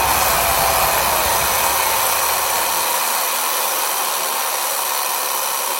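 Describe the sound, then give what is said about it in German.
A loud, continuous alarm clock ringing: a harsh, steady metallic rattle with no pauses. A low rumble underneath drops away partway through while the ringing carries on. “Was ist das denn? Auweia, der Wecker.”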